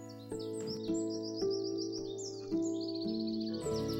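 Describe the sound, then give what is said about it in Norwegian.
Birds chirp and twitter outdoors by a blooming pond at Tjøme in quick, high bursts that repeat throughout, moderately loud, over a steady low humming drone with no voices. “I dag så sitter jeg på Tjøme og ser på en blomstrende dam, og fuglekvitter”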